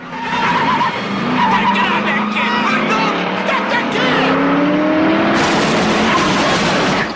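A Mustang car's engine revs hard while its tires squeal and skid continuously around a workshop, loud, with rising engine pitch and screeching rubber filling the whole stretch.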